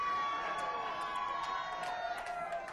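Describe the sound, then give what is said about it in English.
A crowd yells and shouts over one another, several voices overlapping in a loud, continuous clamor that fills the whole moment. An audience at a performance is calling out requests for different songs. “But y'all yelling for different ones.”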